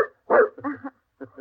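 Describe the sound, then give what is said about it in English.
A dog barks: one loud, full bark followed by a few shorter, softer woofs in quick succession, with nobody talking. “it was the dog Kitty that led the way to her”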